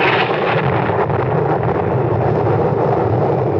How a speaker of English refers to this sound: Fury of a demon, a tropical storm broke, and huge waves lashed at the shore below us.